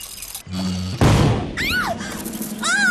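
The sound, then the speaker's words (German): A toy ship cannon, wound up with a key, goes off with one loud boom after a brief mechanical hum, followed by warbling, whistling tones that sweep up and down as the blast fades. “Mit einem Schlüssel zieht Rasmus seine Kanone auf und hält sich schnell die Ohren zu.”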